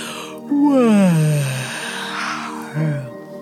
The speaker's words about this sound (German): Lass den Kiefer los, ganz entspannt. Gähne mal ganz aktiv.